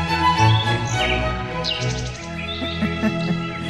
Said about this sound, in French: Ah, les petits oiseaux, ça nous calme.